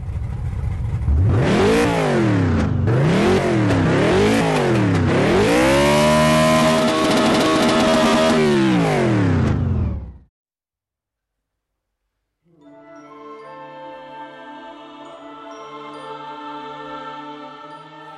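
A car engine revs up and down repeatedly, its pitch climbing and falling in loud sweeping waves before holding high and cutting off; after a short silence, a steadier idling engine hum follows.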